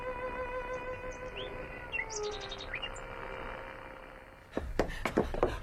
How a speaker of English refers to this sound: I ran all the way down to Mr. Martin at the forge, and it's coming through on his set clear as a bell. It's a marvel, sir. Hearing the bird.